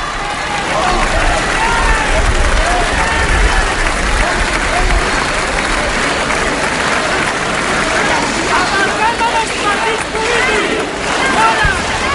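A large crowd at an independence rally applauds steadily during a pause in a speech while many voices chant for independence, a loud, dense roar of clapping and rhythmic shouting that holds for the whole stretch without letting up.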